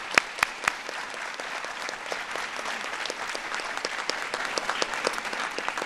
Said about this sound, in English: So let's give a big round of applause to all of our military moms here today.